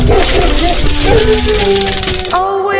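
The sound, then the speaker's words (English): A dog barks and yelps loudly over a dense, noisy background, with a drawn-out whine near the end. “He brings in the dog.”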